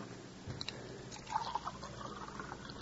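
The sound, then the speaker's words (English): Soft liquid sounds, like water poured into a glass and sipped, with a few faint clinks and a swallow, as someone takes pills with a little water; fairly quiet and brief with no one talking. “Oh, hand me that bottle of pills. My head starts coming off if I get up. Here. And a little water, honey.”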